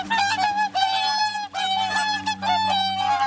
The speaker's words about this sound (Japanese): 盛岡の冬に欠かせない存在といえば白鳥ですよね。今シーズンも高松の池や中津川などにたくさんの白鳥が飛来しました。今日は高松の池で羽を休めていた白鳥の鳴き声をお届けします。